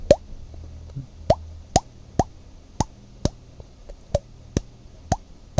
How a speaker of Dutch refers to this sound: was ik een beetje zo met mijn hand op mijn wang aan het slaan, een beetje geluidjes aan het maken. En toen in één keer kwam die druppel. Dus ik wou hem eventjes laten horen, kijken of het nu lukt.